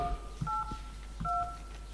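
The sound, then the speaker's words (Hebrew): Several short telephone keypad tones sound one after another at an uneven pace, each a steady two-pitch electronic beep, as digits of a password are entered with no talking over them. “נא הקישו את הסיסמה”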